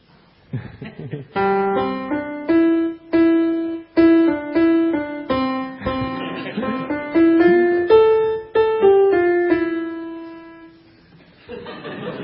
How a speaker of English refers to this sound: And you remember, I asked them both to, for 30 seconds, play something at the piano which could demonstrate something of their love for their wife.